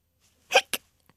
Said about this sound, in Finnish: Tuo hikka kuuluu jollekin hyvin pienelle otukselle. Arvatko sinä, kenelle? Ahaa, hämähäkillä on hikka.